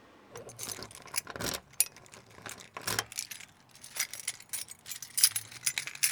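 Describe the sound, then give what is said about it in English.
Keys jangle and scrape at the door lock of a house burned down in a fire, a series of quick metallic rattles and clicks, irregular bursts over a low background rumble, with no talking. “I'm just actually unlocking the door so I can let you guys take a tour of what used to be my house.”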